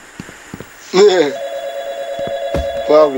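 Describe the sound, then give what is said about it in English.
A phone rings with a steady electronic tone that holds for a couple of seconds, while a voice speaks briefly at the start and again near the end. “Ooh, the phone's ringing.”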